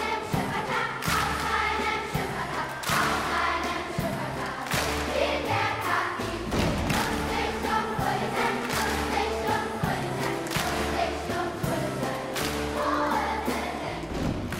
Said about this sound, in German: Hier machen die Vokalhelden gerade vor, wie man einen holprigen Fünfvierteltakt bewältigen kann. Mit Klatschen und Stampfen.